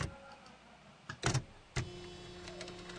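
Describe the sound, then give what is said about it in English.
An electric typewriter hums steadily while a few sharp, irregular mechanical clacks strike, including a quick burst in the middle; no one speaks. “Oh, that's an electric typewriter, though.”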